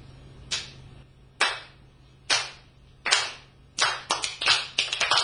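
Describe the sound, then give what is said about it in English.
An audience attempts a slow clap: a few sharp, loud claps spaced about a second apart, then quickening and scattering into ragged, overlapping claps with no voices. “You all suck at the slow clap.”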